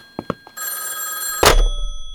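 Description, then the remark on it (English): A few quick clicks, then an old telephone bell rings loud and steady, interrupted by a heavy clunk as the bell's tone lingers and fades. “Bloody phone.”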